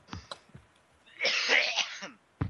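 person coughing

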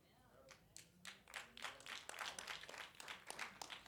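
brief applause

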